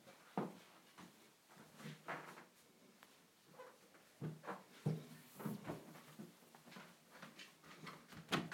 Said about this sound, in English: Checking the door's locked. Yep.